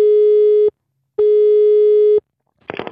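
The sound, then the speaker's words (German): A steady telephone line tone sounds loud and clear in two bursts separated by a short silence, and a voice begins speaking just as the second burst ends. “Dann Wochenende und schon wieder ein Telefon.”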